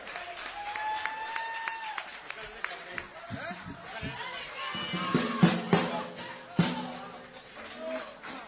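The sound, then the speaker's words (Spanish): An audience applauds in a steady wash of clapping, with people talking and calling out over it and a few whistle-like tones, building to louder bursts near the end. “Un aplauso”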